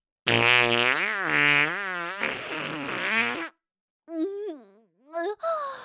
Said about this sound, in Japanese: いや、くっさいおなら止まりませんわ。